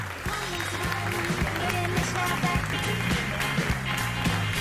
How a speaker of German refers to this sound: Ich weiß gar nicht, ob Sie es mit dem Applaus hören können.